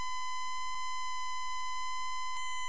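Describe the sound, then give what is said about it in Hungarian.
A steady synthesizer sawtooth wave tone holds one bright, buzzy pitch for nearly three seconds, rich in harmonics, with no variation in loudness and no voices. “Fűrész.”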